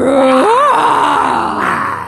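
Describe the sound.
People imitate dinosaur noises with their voices: a loud, rising, wavering roar that bends upward in pitch, then trails off into a rough, growling groan over about two seconds.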